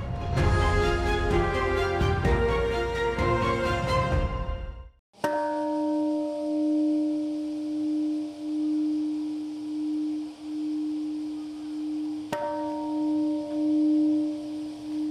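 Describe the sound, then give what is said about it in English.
After a short burst of dense music, a single deep memorial bell in Hiroshima, Japan, marking 80 years since the atomic bombing, is struck, its low tone humming and slowly pulsing for seconds before a second strike rings out alone. “A solitary bell rings out in Hiroshima, marking 80 years since the United States dropped the atomic bomb on that Japanese city, hastening the end to World War II.”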